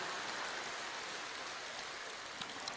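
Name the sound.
audience applause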